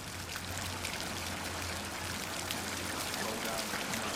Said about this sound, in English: For now, Aramana is content, playing in the water as his pool fills up. He lies on his back under the jet of water.